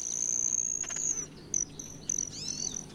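A male broad-tailed hummingbird's tail feathers buzz as it dives past a female: a thin, high-pitched whine that holds steady, breaks into short chirps, then returns, with faint rustling behind it and no voices.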